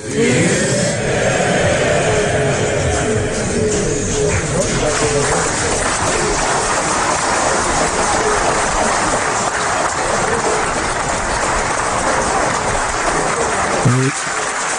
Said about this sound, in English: You can hear the applause there for Robin Cook's speech. That must be what, that must rank as one of the greatest parliamentary speeches of our lifetimes.